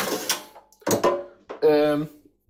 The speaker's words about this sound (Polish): Słyszycie, właśnie wyjąłem szufladę.